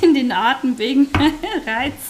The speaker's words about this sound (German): Hinten am Ofen brutzelt schon die Füllung.